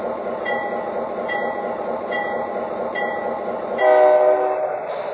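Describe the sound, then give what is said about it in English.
Passenger train number 115, the City of Las Vegas, rolls along on track one with a steady rumble and rhythmic clacks, then a loud, sustained horn blares near the end. No one speaks. “race on track one, train number 115, the city of Las Vegas.”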